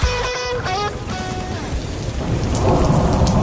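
A thunderstorm effect: a deep, loud rumble of thunder rolls under steady, hissing rain that swells slightly toward the end, with a brief tonal ringing fading out early on.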